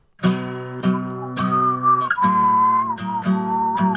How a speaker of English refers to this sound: Hold on. How does it go? Stand by. Whistle solo. It's low.